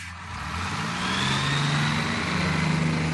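A bus engine runs steadily up close, its low hum rising slightly in pitch as if accelerating, with a continuous mechanical drone and no speech.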